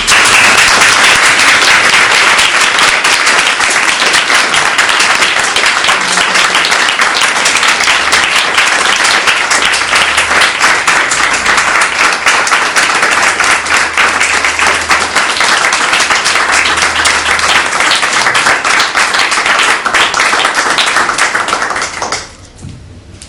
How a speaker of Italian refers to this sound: Io non aggiungo naturalmente altro perché appunto già il lungo applauso è già molto significativo.